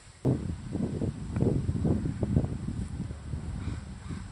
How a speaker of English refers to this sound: So I'm under a tree right now, and it's really windy, and I'm trying to get my phone to pick up the sounds of the leaves rustling.